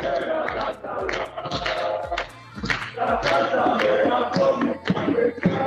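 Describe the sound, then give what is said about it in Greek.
Football fans in the stand at the Nea Michaniona ground, a few kilometres outside Thessaloniki, Greece, before the match between Agios Nikolaos and Proodeftiki Ekrixi Toumba, chant together in a loud, continuous roar of many voices, punctuated by steady, rhythmic low thumps like a beating drum beneath the singing. “Ακούγονται πολύ καλά και τα συνθήματα και όλα.”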